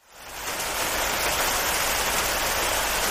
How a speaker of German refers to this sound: Stimmt, es wurde richtig kühl. Brrr. Und es hat angefangen zu regnen.